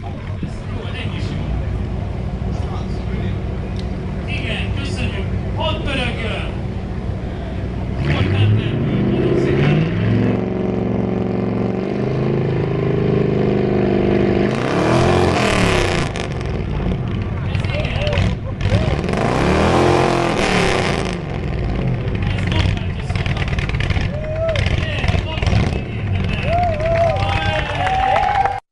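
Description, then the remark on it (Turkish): An old classic car engine revs repeatedly, its pitch sweeping up and down over a steady idle, loud, with crowd chatter and voices in the background. “gördüğüm kadarıyla bu dönemlerde arabaların motorlarının seslerinin güçlü olması bir prestij meselesi gibi kullanmışlar.”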